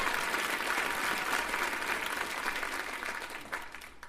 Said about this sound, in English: Big round of applause